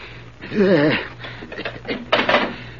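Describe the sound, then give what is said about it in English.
A wavering, whistling squeal gives way to a run of quick mechanical clicks and ratchets as a safe's combination dial is spun back and forth, moderately loud with a low hum underneath. “Quit stalling. Spin that combination.”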